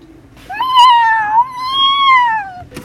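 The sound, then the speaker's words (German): A person imitates a cat with one long, drawn-out meow lasting about two seconds, its pitch wavering slightly. The voice is fairly loud, with no other talking. “Sagte sozusagen die Katze.”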